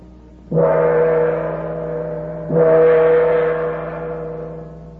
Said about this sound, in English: Outside this door was a huge gong. The officer drew his sword and struck the gong.